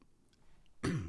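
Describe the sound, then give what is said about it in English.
A single throat clearing, a rough rasp with a short cough-like burst that breaks abruptly out of near silence near the end and carries on briefly. “no cough button here.”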